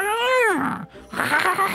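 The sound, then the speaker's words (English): A person does a drawn-out, whiny meow with their voice, rising then falling in pitch, followed by a short break and a rougher, breathier vocal noise, fairly loud. “I need to make him a little bit of a cat.”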